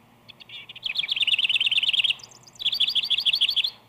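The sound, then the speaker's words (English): A house wren sings two bubbling, rapid phrases, each starting with soft chatter and then bursting into a loud, tumbling trill of high notes, with a brief pause between them. “The house wren matches any bird in this department. With each phrase, he seems to simmer first and then to boil over with musical fervor.”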